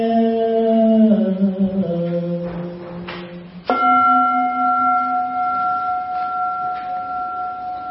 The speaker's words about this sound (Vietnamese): Tiếng chuông huyền diệu